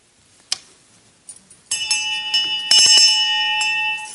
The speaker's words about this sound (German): Nun wissen wir ja, was die Glocke angeht, auf dem Sofa schläft man ja ein. Ja, als Einschlafen kommt von alleine. So, und deshalb klingelt die Glocke.